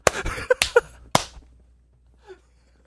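A few sharp hand claps, made as a marker for editing, in an uneven burst, loud and crisp, followed by a quiet pause and a faint short vocal sound near the end.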